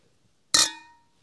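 Glasses clink together once in a toast, a sharp bright strike followed by high ringing tones that fade out within about half a second, with no voices.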